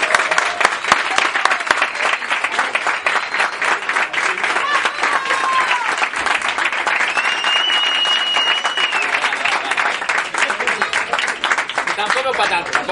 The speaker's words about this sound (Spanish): ¡Un aplauso!